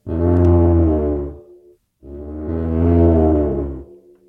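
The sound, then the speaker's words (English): A lion's roar friction drum, a suspended single-headed drum with a string through the head pulled with a wet washcloth, gives two long, loud, low groaning roars, each rough and buzzy with rich overtones, swelling and then tailing off, separated by a brief silence. No one speaks. “I brought a very unusual one for you called a lion's roar.”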